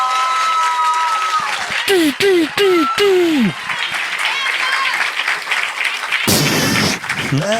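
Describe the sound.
An audience applauds loudly and steadily throughout for an audience member who asked whether they are raclette fans, with several quick descending whistle-like tones sounding over the clapping early on and a brief voice near the end.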